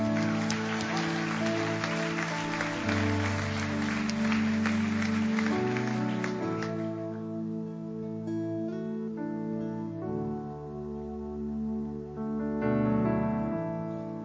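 A crowd claps steadily over upbeat music for about seven seconds as guests are invited up to the stage, then the applause fades and the music carries on alone, with a brief swell near the end.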